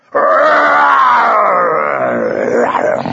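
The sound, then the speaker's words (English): A loud, drawn-out lion roar from a lion with its jaws opened very wide, showing razor-sharp teeth, rumbles for about three seconds, starting abruptly and sliding slowly downward in pitch before trailing off in rough, throaty pulses. No one speaks. “At that moment, the lion took a step forward and opened his jaws very wide, showing an array of razor-sharp teeth.”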